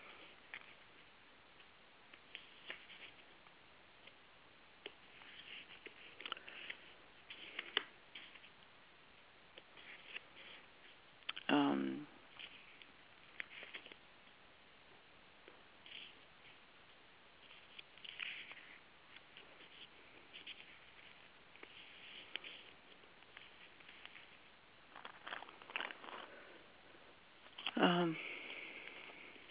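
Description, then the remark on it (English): Papers being shuffled and rummaged through while someone looks for a needed piece of paper, with scattered soft rustles and a few louder crinkling bursts over about half a minute, fairly quiet overall and no talking. “Hold on, I'm just looking for a piece of paper I need.”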